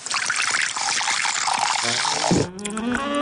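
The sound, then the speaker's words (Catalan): Beer pours into a glass in a radio advert for Ginesart, the craft beer from Ginestar. A steady, bright gurgling stream rises in pitch as the glass fills, then briefly cuts off and settles into a fizzing, foaming trickle. “El plaer d'una cervesa.”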